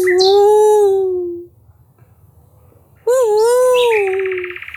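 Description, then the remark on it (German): A voice imitates an owl's screech with two long, loud wavering cries, the first fading out, then a short pause before the second rises sharply and trails off. “Eine dicke Eule mit glühenden Augen ist rund um sie herumgeflattert und hat geschrauen.”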